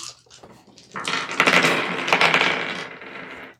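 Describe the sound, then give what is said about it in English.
Dice clatter and rattle in a hand, starting with a few light clicks and building into a dense, continuous shaking for a couple of seconds before stopping abruptly. Fairly loud, no voices. “From the dice sound in his hand.”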